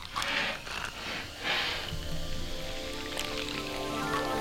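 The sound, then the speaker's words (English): A fizzing drink held up to a microphone crackles and hisses steadily with dense, tiny popping bubbles, while a faint low tonal hum joins in partway through. “This looks fizzy. Sounds fizzy too.”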